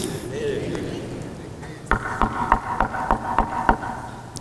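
Seven sharp, evenly spaced knocks on a front door, steady and firm, begin after a couple of seconds of low background murmur and stop just before the end.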